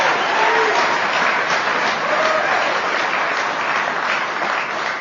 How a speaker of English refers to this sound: If you are new to Alcoholics Anonymous and you're wondering why they're applauding, they're not applauding for yours truly, because after I'm done, you'll be convinced that I ain't no big deal.